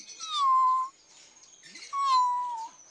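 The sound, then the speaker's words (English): A kitten meows twice, each call a high, drawn-out, slightly falling mew with a short pause between them, fairly loud with no other sounds. “A kitten.”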